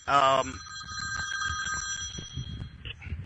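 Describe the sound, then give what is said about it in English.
A telephone bell rings once, a bright, loud metallic burst that leaves sustained ringing tones fading over a few seconds, with low murmuring voices underneath. “That's the past calling now as I turn off my damn phone.”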